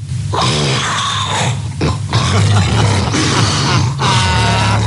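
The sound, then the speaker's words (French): A loud, ragged snoring gasp, harsh and raspy, surging in several heavy breaths with brief pauses between them, no talking: a snoring man painfully resuming breathing after about 26 seconds of sleep apnea. “C'est quand même toujours aussi impressionnant de l'entendre ronfler.”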